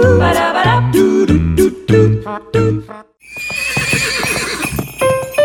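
A horse whinnies loudly in a series of shrill, quavering bursts, then the sound gives way to a busier stretch of clip-clopping hooves with no one speaking.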